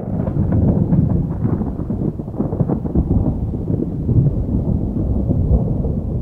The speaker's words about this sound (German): Donner grollt und er kommt näher. Schon grummelt es direkt unter den Füßen.